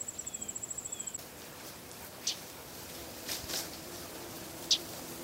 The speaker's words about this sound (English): And I don't know what kind they are. I wish I did. But often that's what you're hearing, that kind of background sound of insects. It just sort of depends on where I'm standing when I'm recording.